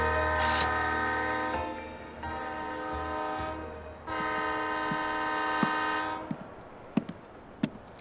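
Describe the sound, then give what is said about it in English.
A train's horn blares loud in long sustained blasts, then gives way to the sparse metallic clanks and thuds of rail cars settling at Addington train station at 11 o'clock in the morning. “Loveday Brooke arrived at the Addington train station at 11 o'clock the following morning.”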